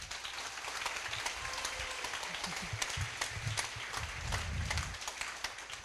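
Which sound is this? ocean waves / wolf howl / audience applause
audience applause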